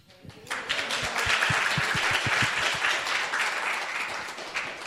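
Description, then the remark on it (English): An audience breaks into applause after a presentation, a dense, steady wash of many hands clapping that starts abruptly and holds fairly loud for several seconds without any talking. “Got some good applause there.”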